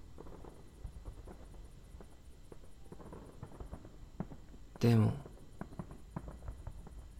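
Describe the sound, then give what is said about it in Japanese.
Fireworks go off, with scattered faint pops and one louder, deeper boom around the middle, over a steady outdoor hiss while a voice speaks briefly as two people watch them together. “こうして二人だけで花火を見るのは初めてだから”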